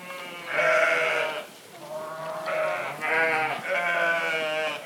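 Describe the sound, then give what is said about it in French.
Several ewes on a family farm bleat in overlapping, wavering cries, one after another with hardly a pause, loud against a low background murmur of the flock. “on avait déjà des brebis avant, et le grand-père avait des brebis, donc voilà, c'est une continuité.”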